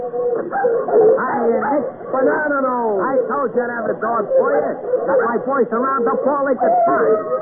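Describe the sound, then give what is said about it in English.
A dense, overlapping chorus of several dogs barking, yipping and howling at once, with rising and falling howls woven through steady loud barking for the whole stretch. “It's a full operatic ensemble. No, this can't be. This thing has affected our minds. We've gone pooch potty.”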